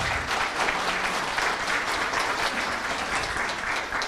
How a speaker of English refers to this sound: And that's, yeah, you can clap that, that's good.